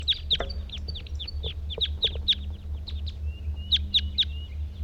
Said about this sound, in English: These are the males that were in the tree now. Two males in a treetop. One's calling, one's singing.